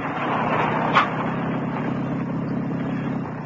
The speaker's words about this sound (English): Pull up outside. A neat little car